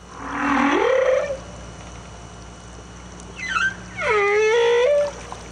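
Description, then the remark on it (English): Humpback whale song: a long rising moan, then a pause and a second creaky, harmonic-rich call that swoops up and holds, heard alone against a steady underwater hiss. “Another sound then is the humpback whale.”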